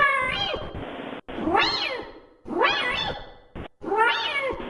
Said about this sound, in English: There's a kitty cat. You know, kitty cat? You know? No. A cat? No. Do you hear him meowing?